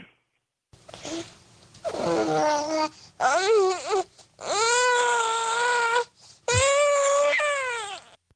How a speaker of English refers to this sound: From as young as 4 months of age, they're pronouncing simple single words. And here we have a baby at 4 months of age. Listen to this.